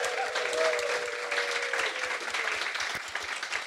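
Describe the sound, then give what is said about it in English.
An audience applauds the guest Tim Dowling steadily, a dense wash of many hands clapping at an even, sustained level with sharp individual claps standing out. A faint whoop or cheer rises briefly near the start. “Please give it up for our guest, the brilliant Mr.”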